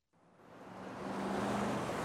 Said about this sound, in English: Bus.